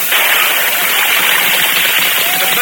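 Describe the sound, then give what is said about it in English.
A horse and rider jump into water, and others follow, making a loud, steady churning rush of spray that continues without pause for the whole moment, with no voices. “Jumped into the water. So do the others.”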